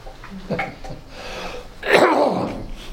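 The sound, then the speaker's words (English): A person coughs: a couple of small throaty bursts, then one loud, breathy, explosive cough that trails off, with no talking around it. “Excuse me while I cough, Vicar.”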